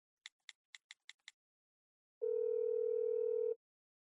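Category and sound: signal or alarm, phone ringing tone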